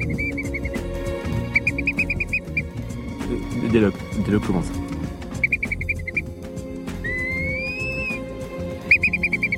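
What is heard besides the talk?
eurasian curlew calling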